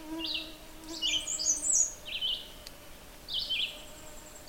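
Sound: two birds singing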